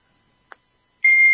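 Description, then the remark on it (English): A short electronic chirp, then a loud, sustained high-pitched beep that starts abruptly and holds steady, like an alarm going off, with no voices. “Have you got like an alarm going off or something?”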